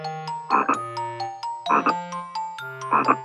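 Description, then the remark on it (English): Frogs at a pond croak in three evenly spaced, raspy bursts about a second apart, clear, over a light plinking musical backing with no talking. “I can hear frogs.”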